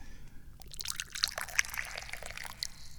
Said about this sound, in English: Pour some delicious tea here. This is the first tea that I've had today.